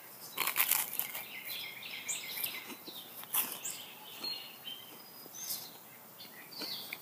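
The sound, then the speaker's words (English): Quiet outdoor ambience on a sunny morning, about 63 degrees, with scattered, high-pitched bird chirps and tweets, mixed with soft crinkling and rustling noises while someone sits outside eating toast and drinking coffee. Nobody speaks. “Sitting out here drinking coffee, eating toast in the morning, listening to the birds.”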